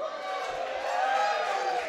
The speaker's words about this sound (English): They have been booing and hissing.